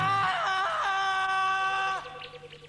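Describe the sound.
A person imitates a jungle roar with a loud, sustained, strained vocal cry, harmonic and scream-like, holding steady before breaking off and trailing into softer breathy sounds.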